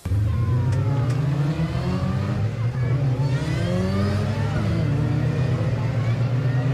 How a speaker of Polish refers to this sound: Pozostajemy przy sportach motorowych, ale przeniesiemy się teraz na wyścigi samochodowe.